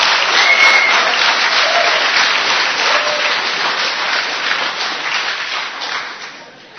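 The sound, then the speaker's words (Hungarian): Steady applause from an audience, dense overlapping claps holding at a fairly loud level for several seconds before tapering off slightly at the end, with no talking over it. “Attól félek, hogy kínumba tapsolgatunk mi ittem.”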